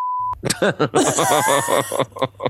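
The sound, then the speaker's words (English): A short, steady censor bleep sounds alone at the start, cutting off a spoken name, and a person immediately carries on talking afterward. “can you please beep the name that I say to this”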